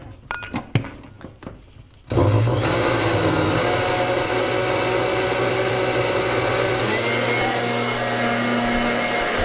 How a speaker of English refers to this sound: All right, brace yourself for noise. Putting the blender on.